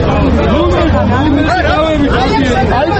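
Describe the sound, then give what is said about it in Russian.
A dense crowd of many voices shouts and clamors all at once on 3 January in Georgia, in front of the memorial to those fallen for territorial integrity, where war veterans were on hunger strike, loud and unbroken, with raised voices rising above the steady roar of babble. “Эти крики были слышны 3 января перед мемориалом павшим за территориальную целостность, где ветераны войн голодали неделю.”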